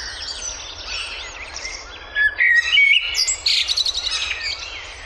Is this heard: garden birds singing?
yes